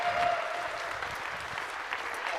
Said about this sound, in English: There we go. A round of applause.